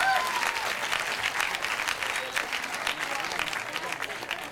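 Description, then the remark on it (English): A crowd applauds after non-smokers in the audience are asked to show themselves by a round of applause, dense clapping holding an even loudness for several seconds, with faint scattered voices and a few whistles mixed in. “By round of applause, non-smokers.”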